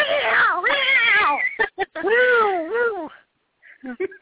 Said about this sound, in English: I'm sorry, my cat's about to attack me. Does your cat want to get on the line?